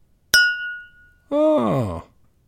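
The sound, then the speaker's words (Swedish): A single bright bell strike rings out clearly and fades over about a second, followed by a brief groaning vocal sound that slides downward in pitch. “Det där är ju den klockan som du använder i något sammanhang över den.”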